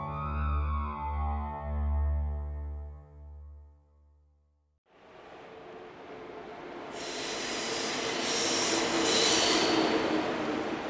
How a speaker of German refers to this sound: Berlin Hauptbahnhof. Der ICE nach Stuttgart fährt ein.